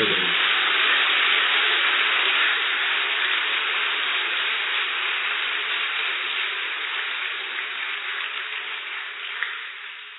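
A crowd in the Diamond Hall applauds loudly, a dense, continuous wash of clapping that holds steady for several seconds before gradually tapering off. No voices are heard.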